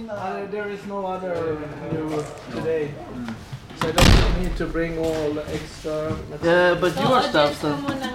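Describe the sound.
A firm knock on a classroom door in Falun on a chilly May day lands midway through, one short solid thud against steady talking voices that carry on before and after it.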